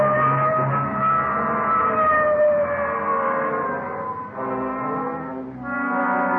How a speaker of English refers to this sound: Okay, hit the siren. Let's move.